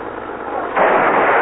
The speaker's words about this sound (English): Hey, they crashed into my car. They cracked me up. Hey, you. What's the big idea? Don't you know how to keep a car on the road?